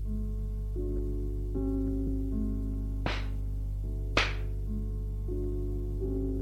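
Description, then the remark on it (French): Two sharp, crisp slaps ring out about a second apart, a man slapping a young woman across the face, each a quick loud crack over a steady bed of sustained orchestral music. “Il prend le plateau de verre qu'il met sur la table et lui donne une gifle.”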